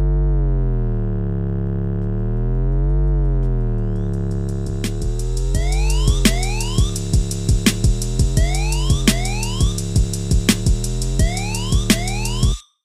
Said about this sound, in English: Beneath this siren, we hear a new drum pattern, which is joined by my favorite element of the track, a slow sliding bass line.